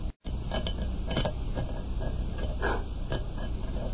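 In the radio drama X-1, a rock scrapes against the outside of a lead door as something is scratched into it, in a steady series of gritty, rasping strokes, each a short burst of harsh scratching over continuous noise, with no voices.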